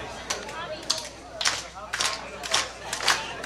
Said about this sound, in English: Okay, this next song is a cappella, so we're all going to join together and clap. It's going to be a very beautiful bonding experience. I'll start you off. Here we go.